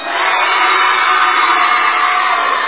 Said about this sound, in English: Who's going to cheer the loudest and the best?